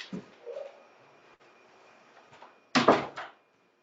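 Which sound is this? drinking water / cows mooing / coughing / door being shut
door being shut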